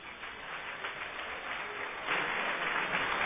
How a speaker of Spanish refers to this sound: Muchas gracias al presidente del Consejo de Administración, José María Garzón, por favor, si es tan amable, un aplauso.